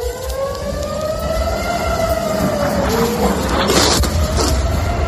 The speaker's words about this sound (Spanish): Y ojo, porque en el norte de Israel han sonado las sirenas por lo que parecía un ataque aéreo con drones procedentes del Líbano.